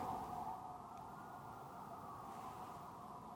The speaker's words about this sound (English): I got to wait for the siren. I cannot talk over a siren. Just catch your criminal. What are you doing? Maybe. I wonder if it's disappearing because they're going through a tunnel, because there's mountains everywhere.